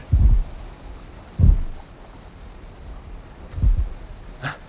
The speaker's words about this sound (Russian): Вы только представьте себе, ведь звук слышен только тогда, когда рот у кита открыт. Видите? Рот захлопнулся, и звук исчез. Значит... Это стучит сердце кита.